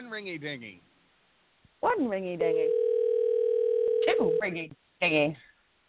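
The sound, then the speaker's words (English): A single steady telephone ring tone sounds for about two seconds on the line, bracketed by people talking before and after it. “Oh, and it's ringing.”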